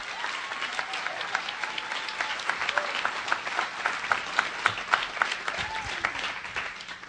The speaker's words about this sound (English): Let's get a big round of applause for First Person Arts!